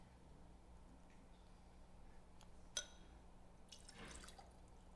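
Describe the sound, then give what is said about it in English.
A single sharp glassy clink, then a brief soft trickle and splash of Aquafina bottled water being poured into a container, quiet, with no one talking. “Can you pour a little bit in here?”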